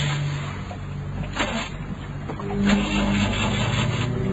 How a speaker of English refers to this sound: We're really drifting. I'm going to try the engine again. Switch that lever back to the left.